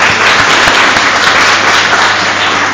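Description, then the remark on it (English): A crowd applauds steadily for the house mother who looks after the children, a dense wash of many hands clapping at once, loud, sustained without a break for a few seconds. “Can I ask that we give her a round of applause?”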